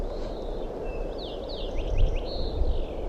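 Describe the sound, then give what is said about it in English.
A wild red crossbill calling from a perch in a ponderosa pine on top of a ridge: a quick run of sharp, high, downward-slurred chip notes in loose clusters, heard over a steady low rushing noise. “Start calling wild crossbill here, perched right in the tree above me, on top of a ridge.”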